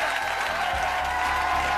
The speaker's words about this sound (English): It was the audience that sent her off with a cheer.